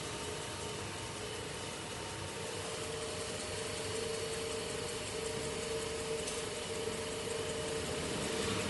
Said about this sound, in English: So he's turning the wheel on the lathe and burnishing it with a tungsten burnisher, as in polishing up the wheel.